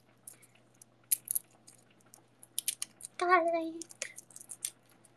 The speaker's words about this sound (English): Garlic, right. Gotta finish chopping the garlic.